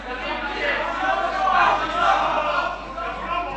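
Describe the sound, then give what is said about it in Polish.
A group in the audience of a hall jeers with shrill whistles rising over a steady roar of voices, loud and continuous for several seconds without a break. “Nie ja gwizdzę, lecz pewna grupa na tej sali gwizdzę.”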